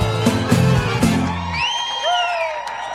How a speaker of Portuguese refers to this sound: Quem tá apaixonado aí, só com o grito bem alto.